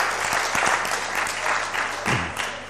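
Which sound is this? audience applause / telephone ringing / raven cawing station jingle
audience applause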